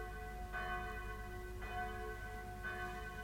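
Captain Kett (Kapitän Kett), in a sailor cap and sea boots, rings his loud wake-up bell to announce the day: three evenly spaced strokes, each leaving a bright, sustained metallic hum that lingers between strikes. No voices are present.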